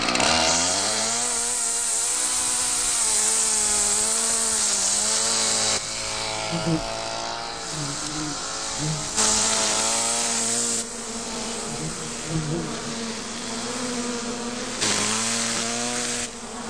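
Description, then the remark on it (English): A weed whacker's small engine runs loud without pause, run beside a bee nest to test whether its noise triggers an attack, its whiny two-stroke pitch rising and dipping as the throttle revs up and eases off. “Would the noise from this weed whacker be enough to trigger an attack?”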